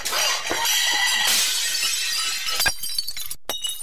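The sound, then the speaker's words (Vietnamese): A loud crash of a tall stack of bowls and plates, piled in a large round-bottomed pan, toppling and smashing onto a cement floor, with bright shattering ceramic and scattered tinkling fragments continuing for a few seconds, ending in a few sharp clinks. “Vừa lúc nhìn về phía đó thì cũng là lúc chúng thi nhau đổ ào xuống nền xi măng.”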